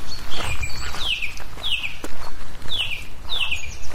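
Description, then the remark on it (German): A loud, dense chorus of thousands of black-headed gulls calling continuously in a moorland landscape, with sharp descending squawks repeating about once a second over a constant background wash of many birds. “Das sind tausende Lachmöwen.”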